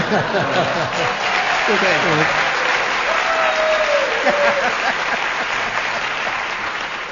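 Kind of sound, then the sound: crowd, tepid audience applause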